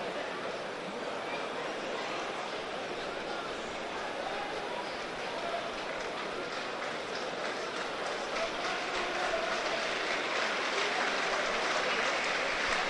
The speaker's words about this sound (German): Applaus wieder bei der Bremer Spieler, der hier eben verletzt schien. Friedel, der steht wieder.